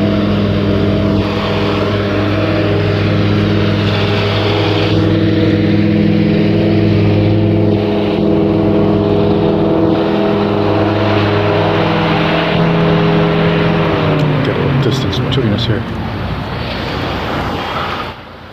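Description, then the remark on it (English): A riding lawn mower engine across the street, ridden by a man at 7 a.m. on a smoky Tuesday morning, 25 August 2020, drones steadily with a loud, buzzing hum, its pitch shifting and dipping toward the end as the motor changes speed. No one talks. “And that background noise is a guy on the riding mower across the street, so...”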